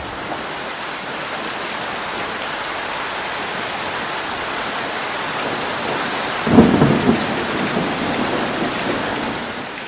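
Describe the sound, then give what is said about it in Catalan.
Steady, dense rain pours throughout, with a single rumble of thunder swelling up around the middle and fading back into the downpour. No voices. “Hi havia una vegada, en un poble molt llunyà, una nit de pluja, una nena anava pel carrer.”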